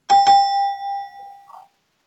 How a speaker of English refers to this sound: Here's the gong.